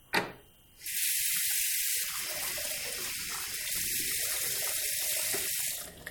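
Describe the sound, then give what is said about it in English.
Water is poured steadily for about five seconds onto a plate of lentils, a broad hissing splash, starting after a brief quiet moment and stopping abruptly near the end. No one speaks. “I pour some in this plate. And then some water on it.”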